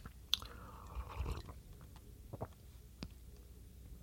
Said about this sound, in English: I have to have a little sip of coffee.